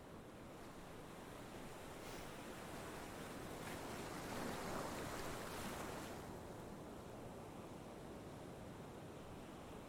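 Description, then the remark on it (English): Steady roar of ocean surf washing onto the shore at a beach, a broad hiss that swells into a louder breaking wave midway before easing back, with no voices present. “Do you mind if we just sit here for a second and watch the waves?”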